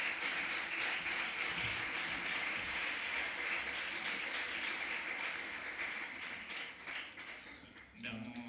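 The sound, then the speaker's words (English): A large audience applauds steadily for an actress, with dense, loud clapping for several seconds before thinning slightly near the end, and a faint voice emerging as it fades. “let's get a big round of applause for Penelope”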